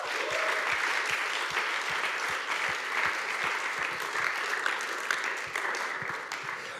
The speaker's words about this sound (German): Geben wir ihm einen herzlichen Applaus.